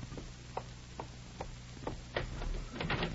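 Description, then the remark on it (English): Soft, evenly spaced clicks lead into a louder rattle and clatter as a front door is unlatched and pulled open to answer it, with a low steady hum underneath and no voices. “Oh, dear, I have to answer the door.”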